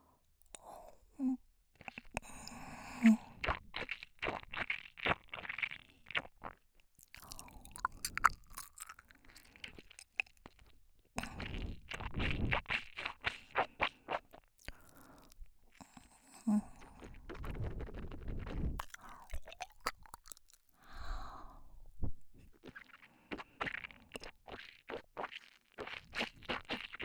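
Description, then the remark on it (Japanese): Wet mouth sounds of chewing and thick, frothy saliva building up, with dense, irregular clicks and smacks that run almost without pause for the whole stretch, quiet yet crisp and textured. “ドロドロの唾液、少しずつ溜まってきました。泡が立ちすぎて真っ白です。”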